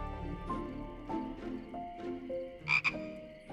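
A frog croaks repeatedly, a series of throaty, uneven calls with two sharper, louder croaks near the end, no voices present.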